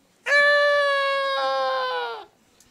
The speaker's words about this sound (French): Alors pour les maris, parfois, le cri d'un bébé la nuit